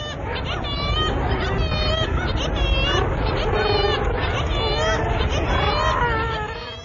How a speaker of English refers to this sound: So, okay, we've established that it is birds, kittiwakes, murres, gannets. What we need to know is where that is.